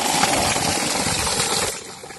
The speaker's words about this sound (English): And you can see the borewell that we have put here. And it's giving water for the people.